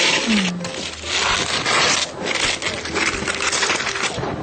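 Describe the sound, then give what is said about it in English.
Steady crinkling and scraping of plastic packaging being pulled open on a vegan stuffed ham roll, a continuous rustling texture with small sharp crackles and no talking. “Now I'll open our vegan stuffed ham roll.”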